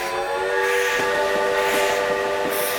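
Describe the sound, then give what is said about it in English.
A steady, loud train whistle holds a sustained, layered tone over the rumble of a moving train, with faint rhythmic clacks of wheels on the rails underneath; the railroad arriving in Arizona's copper mining region in the late 1800s. “But the arrival of the railroad changed everything.”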